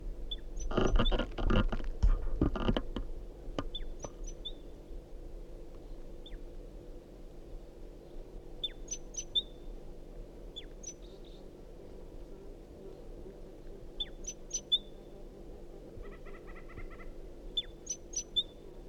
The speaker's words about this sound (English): Start calling the same bird.